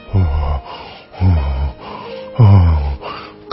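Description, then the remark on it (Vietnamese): Three heavy, ragged gasps for breath, spaced about a second apart, each a loud, strained pant with a wheezy, snorting edge and short quiet pauses between. “Khi rạch bụng hết ra thì bà lão còn sống chui ra thở hổn hển.”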